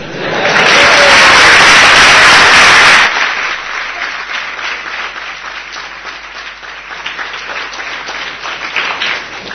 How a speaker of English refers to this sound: Your clapping sounded more like the sea than my imitation.